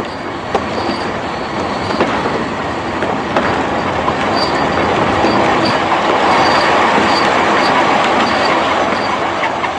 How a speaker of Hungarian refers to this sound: Itt van velünk egy villamos, ez már elég biztató, nem igaz? És oda vezettek a sinek.